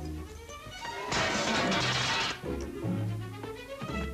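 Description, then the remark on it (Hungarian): A loud crash of a breaking glass window bursts out for about a second, a sharp shattering smash that quickly fades, with muffled low sounds before and after. “Azt hiszem üvegest kell hívni. Miért kell üveges?”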